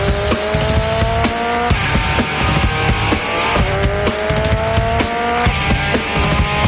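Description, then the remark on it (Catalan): Racing car engines whine and rev continuously, with rising pitched tones layered over one another and sharp bursts of tire squeal, loud and busy throughout with no voices. “Vinga, una mica de motor, un bon consell que tenim preparat.”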